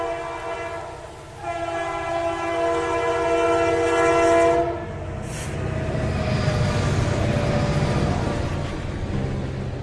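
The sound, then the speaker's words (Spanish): A train rumbles past, its horn sounding a long sustained chord for several seconds before fading into the steady roar and rattle of the cars rolling by. “Es el tren.”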